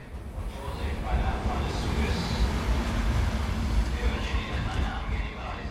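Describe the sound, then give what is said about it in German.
A train rolls steadily along the rails at about 80 km/h, nearly 96 decibels loud, a continuous rumble with heavy low-end roar and a hissing wash of noise above it, holding an even loudness throughout. “Beinahe 96 Dezibel laut ist ein Zug, der mit 80 Stundenkilometern auf der Schiene rollt.”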